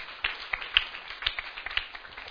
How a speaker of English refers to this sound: Can we give the Lord a clap offering? You are not clapping. Clap. Clap for the Lord.